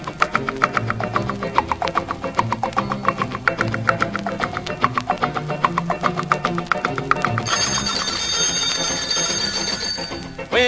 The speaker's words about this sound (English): I get to sleeping and start my dreaming. The darned old clock seems to start that dingling.